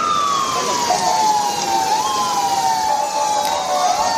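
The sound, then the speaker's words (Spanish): Red Crescent ambulance sirens wail steadily, a sustained high tone gliding slowly downward with overlapping siren layers, loud amid a wash of street noise, with no talking, as the ambulances carry about 40 wounded people to Egypt. “Este sonido de las ambulancias de la Media Luna Roja que han trasladado ya a Egipto a unos 40 heridos.”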